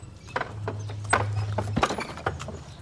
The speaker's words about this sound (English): Across the street, negotiating the horses and carts that are more common here than cars,